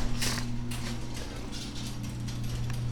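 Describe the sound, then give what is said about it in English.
A garage door opener runs steadily as the garage door goes up, its low motor drone holding a constant pitch under continuous rattling and clattering of the door moving along its track. “The door goes up.”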